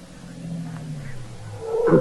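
A car engine hums low and steady, its pitch sliding downward as the car slows and pulls in just past a theater, ending with a brief, louder squeal-like burst.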